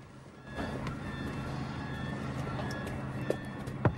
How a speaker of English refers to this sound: As she goes, Joel closes his eyes for a nap, but is woken by a young man knocking on the car window.